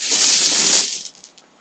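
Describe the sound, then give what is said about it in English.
A dense, rattling clatter of many dice spilling out of a bag onto a bed, loud for under a second, then a few scattered clicks trailing off. No one speaks. “I don't know if you heard that, but that was an extensive clutter of dice falling out of the bag onto my bed.”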